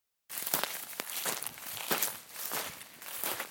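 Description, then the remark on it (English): Footsteps crunch and tromp through shoulder-length dry sage brush at Manzanar in a steady, uneven rhythm, with crackling and rustling of brittle twigs and leaves at each step, fairly loud and with no one talking. “I'm in right now shoulder-length sage and sort of tromping through the brush and watching out for snakes.”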